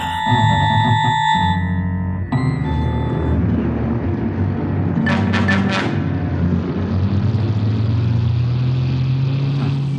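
A car engine rumbles steadily as the vehicle drives into the winding alleys of the Majaltaraz district, opening after a brief sustained electronic tone. A few quick bursts of hiss cut through midway, and the engine stays loud throughout without any talking.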